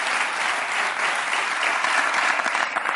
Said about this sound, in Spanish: Muchas gracias. Un aplauso